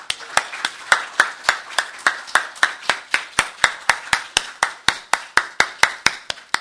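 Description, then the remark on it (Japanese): A church audience claps in thanks to the Lord to begin a worship service, in a steady, fairly quick rhythm, about three claps per second, each sharp and bright, with a soft wash of scattered claps between the beats. No one speaks. “それでは私たちを歓迎してくださっている主に感謝の拍手を持って礼拝を始めたいと思います。”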